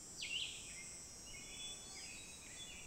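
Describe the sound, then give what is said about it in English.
A hermit thrush's fluty song rings out: one clear, falling phrase early on, followed by fainter echoing notes over a steady high hum of insects. “Over there, if you can hear that fluty thing, that's the hermit thrush.”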